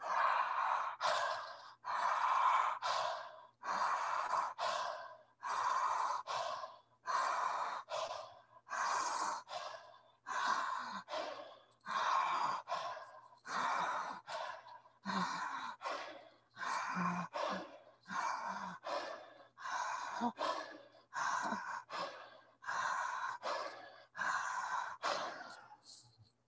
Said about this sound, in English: We're going to do these way up high in the collarbones up here, 5, 10, or 15 big breaths, whatever you can manage, as big as you can, one right after the other, big open eyes, big open mouth, go.